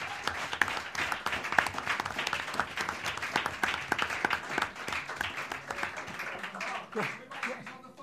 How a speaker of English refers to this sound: Like, Just let's just have a little round of applause for Mark Roberts for being the biggest legend that's ever worn Stevens shirt.